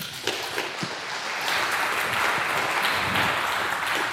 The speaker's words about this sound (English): A big applause